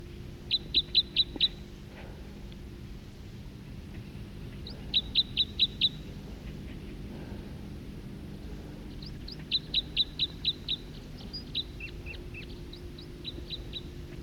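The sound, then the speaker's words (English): A bird sings right close: short bursts of five or so rapid, high, piercing notes repeat about every four seconds, with fainter scattered chirps toward the end over a low steady hum. “song of a bird right close.”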